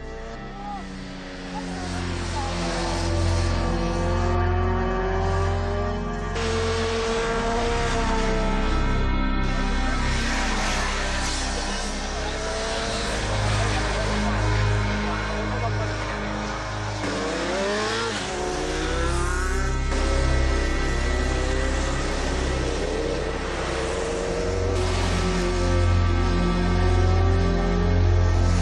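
Motorcycles race along a road, their engines roaring loud and close, revving up and down in pitch as bikes speed past one after another in a continuous, overlapping din.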